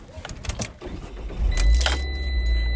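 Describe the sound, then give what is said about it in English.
A few clicks and rustles, then a car engine cranks and catches, settling into a steady, loud low idle rumble that continues to the end. “I gotta get in the car and I gotta go down there.”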